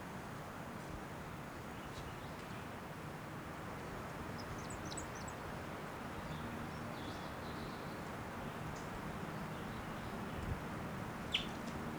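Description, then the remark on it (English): A few faint, short, high-pitched calls from a wild bird, a brief cluster around the middle and single chirps later, over a steady low rumbling background noise with no talking. “And she, oh, that same bird. Not sure what sex it is.”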